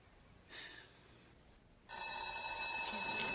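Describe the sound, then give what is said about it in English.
A telephone bell rings with a loud, steady, high metallic trill that starts abruptly and keeps going, preceded by a brief faint tonal blip; no one speaks. “Saved by the bell.”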